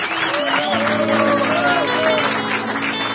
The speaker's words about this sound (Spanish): Fuerte el aplauso para los músicos, señores y señores.